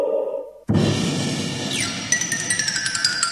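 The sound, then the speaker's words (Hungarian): A chandelier falls: a sudden loud crash bursts in after a brief quiet hum, followed by a sustained clatter of shattering glass with bright tinkling and a run of small clinks as the debris settles. “A fejemre zuhant a csillár!”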